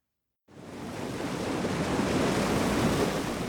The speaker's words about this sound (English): You can't ignore the power of water in the desert when it's rushing past you. This canal is swollen with Colorado River water that's been diverted to farms in Yuma, Arizona.